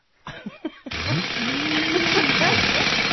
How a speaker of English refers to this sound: You know, central vacuum system? Yeah, like a demonstration of the central vacuum.